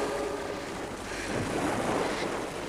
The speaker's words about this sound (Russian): Она боролась с волнами, а перед глазами мелькали картины жизни.